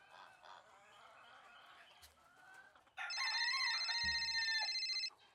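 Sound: alarm clock ringing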